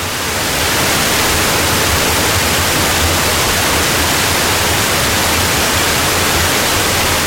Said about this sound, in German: Das Wehr hier in der Nähe staut das Wasser auf, dass die Oste hinunterfließt. Aber wenn das Wasser zu hoch angestiegen ist, läuft es über und donnert wie ein kleiner Wasserfall hinter der Sperre hinunter. Und das macht Lärm.